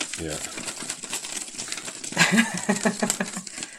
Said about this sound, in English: Okay. I'm shuffling the contents of the hat. Mm-hmm. Yeah, give it a good stir.